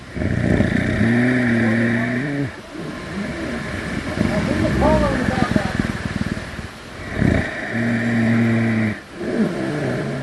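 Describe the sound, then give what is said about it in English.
A brown bear snoring at Sitka's Fortress of the Bear, where a sow and three cubs slept after being tagged and collared: loud, low, rumbling drones with a buzzing, engine-like tone, returning in long rhythmic bursts separated by rougher, raspier breaths. No one speaks. “In case you ever wondered what a snoring bear sounds like, yes, this is it.”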